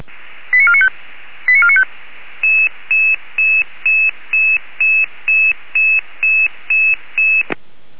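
A radio dispatch alerting tone sequence for a Red Cross emergency call-out to Altendorf: two short bursts of rapid stepped tones, then a steady run of about eleven evenly spaced electronic beeps, ending with a brief click. No voices.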